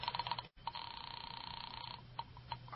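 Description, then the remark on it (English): A telephone ringing tone heard down a phone line during a call to a landlady at Carlton Apartments, thin and band-limited, with quick pulsed bursts early on, a brief dropout, then a steady buzzing line with occasional blips. “All right. I'll phone the landlady.”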